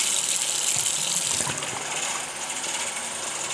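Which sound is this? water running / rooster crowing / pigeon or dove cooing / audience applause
water running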